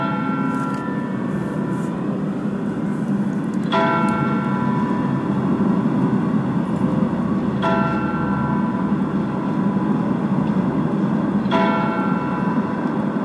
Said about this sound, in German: Mit dem Glockenschlag um 14 Uhr geht der Motorradgottesdienst zu Ende. Wir hören jetzt zunächst die kleine Glocke des Michels, die mit 4 Schlägen die volle Stunde ankündigt.